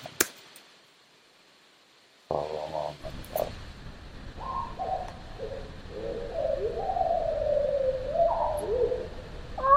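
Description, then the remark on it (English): A slowed-down black-capped vireo song: low, drawn-out warbling phrases that rise and fall in pitch, sounding almost like cooing, over a steady background hiss after a brief click and silence. “And then this is slowed down.”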